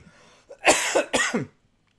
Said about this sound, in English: Jeez, I made myself laugh into a coughing fit.